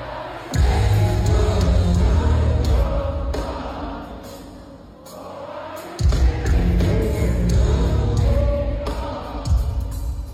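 A huge concert crowd sings along loudly with every word over heavy, booming live music, with a dense roar of many voices holding steady and a brief dip in the middle before surging back.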